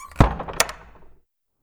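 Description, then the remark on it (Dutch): A door at Muiderslot castle is opened with a heavy thunk from the latch, followed by a short creak and a sharp click, fading out within about a second. “Ja, ik doe de deur even open.”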